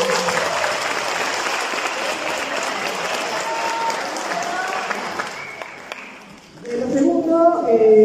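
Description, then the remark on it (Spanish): An audience claps steadily for the crew who made the broadcast possible, a dense, loud wash of applause for about five seconds, which then fades out before a single voice begins speaking. “Den un aplauso, están súper estresados.”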